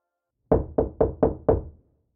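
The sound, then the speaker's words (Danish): Five heavy, evenly spaced knocks pound on a front door in quick succession at 5:45 on a Sunday morning, made by the police; loud, then stopping abruptly. No voices accompany them. “Klokken 5:45 søndag morgen banker det hårdt på vores dør, og jeg ved med det samme, at det må være politiet.”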